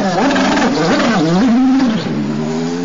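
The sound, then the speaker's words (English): Buddy Lazier's Advanced Auto Parts racing car with a Chevrolet engine snarls loudly as it heads out onto the racetrack, its rich harmonic drone climbing and dipping in pitch through a few quick throttle blips before settling into a steadier, slightly lower tone as it pulls away. “This, of course, was the chassis that John Alesi drove last year, obviously with a little more horsepower this year, a Chevrolet engine.”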